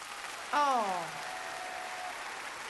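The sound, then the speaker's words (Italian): Steady clapping from a crowd fills the whole stretch as a dense, even patter, with a brief falling tonal voice-like sound rising above it near the start. “Applausi proprio di quelli incredibili oggi.”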